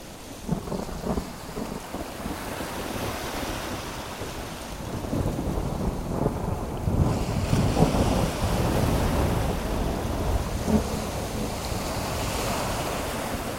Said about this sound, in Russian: Штормило ужасно. Волны вздымались высотой с мачту. В одно мгновение Мэйфлауэр подбрасывала на самый гребень волны. В другое волны буквально накрывали корабль.